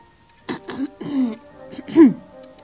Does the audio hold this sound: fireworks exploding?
no